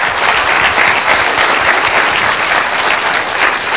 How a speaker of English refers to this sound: So let's give the guests the applause they deserve.